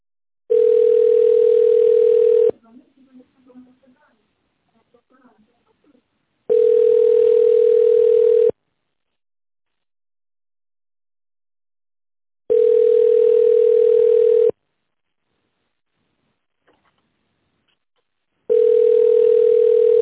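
A steady telephone line tone plays in four two-second bursts spaced about four seconds apart, a single mid-pitched hum, while a call to an office center waits first in the queue for an operator; faint murmuring sounds drift in during the first gap.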